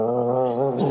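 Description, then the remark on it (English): A voice imitates the growling stomach of a hungry man on a rooftop with one short, gurgling, wavering hum, fairly loud, lasting under a second. “His stomach's growling.”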